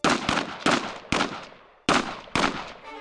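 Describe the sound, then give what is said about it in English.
Six loud gunshots ring out in an uneven sequence at 8:45 p.m. in the Piazza Marina, fired in an attack on a man crossing the piazza, the first few close together, then spaced farther apart, each with a sharp crack and a lingering echo. No voices. “At 8:45 p.m., 6 gunshots split the air in the Piazza Marina.”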